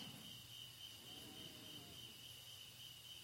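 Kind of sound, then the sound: insect, crickets chirping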